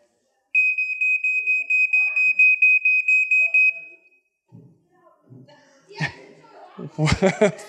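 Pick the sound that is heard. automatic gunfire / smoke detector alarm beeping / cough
smoke detector alarm beeping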